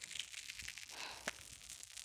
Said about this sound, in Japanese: いい音。まずはこっちのお耳から。音だけじゃなくて、パチパチって、炭酸の刺激が気持ちいい。